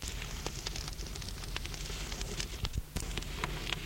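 A wood fire crackles steadily in a living-room fireplace, with irregular sharp pops and snaps over a soft, continuous hiss. No voices are heard.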